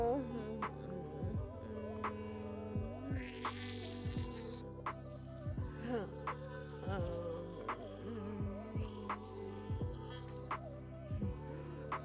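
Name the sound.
electric toothbrush buzzing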